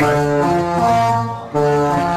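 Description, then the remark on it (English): A ship's horn blares in loud, sustained brassy tones that shift pitch slightly, briefly dip, then sound again strongly, with no voices over it. “That's the ship's whistle, horn, I should say.”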